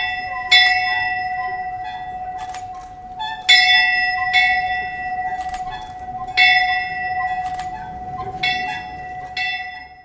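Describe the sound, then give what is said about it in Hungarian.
A newly installed college dormitory bell rings repeatedly in irregular strikes at its handover ceremony in Hungary, each bright metallic clang leaving a long sustained hum that carries between hits. It sounds fairly loud, with no talking. “Ezekkel a gondolatokkal adjuk át a harangot.”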